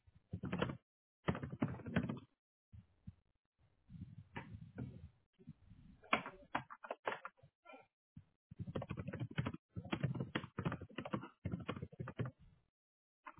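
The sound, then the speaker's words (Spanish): Quick bursts of typing on a computer keyboard, fairly loud, coming in irregular clusters of keystrokes separated by short pauses, with no one speaking. “Poner mi nombre, ¿verdad?”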